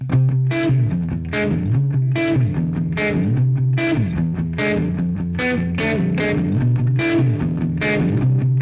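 An electric guitar played through a reverb pedal plays a repeating riff of strummed chords with a washy, effected tone, each hit ringing out and blending into the next at a steady, fairly loud level, no voices.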